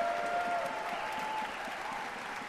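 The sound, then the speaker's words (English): Sustained applause from a large concert audience at Carnegie Hall as violinist Gil Shaham takes another bow after the Brahms Violin Concerto with the Orpheus Chamber Orchestra, a dense, steady wash of clapping at an even, fairly quiet level throughout, with no voices standing out. “Gil Shaham stepping off stage right and then back onto the stage and taking another bow and applause from this very appreciative audience.”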